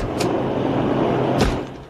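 A door opens and then closes, two short knocks of sound about a second apart over a steady background rumble, with no voices.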